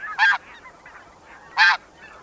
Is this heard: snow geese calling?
yes